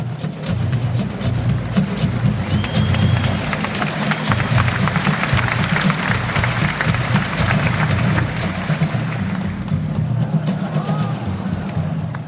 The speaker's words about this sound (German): ist dann eben die Schweizer Fahnen erschienen, mit dem Top Secret Band Corps aus Basel, eine Trommelgruppe natürlich, und die haben für ihre Vorführung einen Haufen Applaus gesammelt.